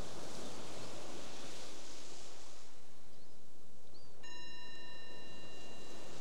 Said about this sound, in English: The bell is the invitation to bring the awareness back to the surface.